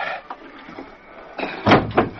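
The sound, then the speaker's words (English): A heavy wooden trapdoor in the floor creaks and scrapes as it is pushed up open, with a loud thudding shift near the end and a second bump just after, without voices. “I think it's safe to push up this door now.”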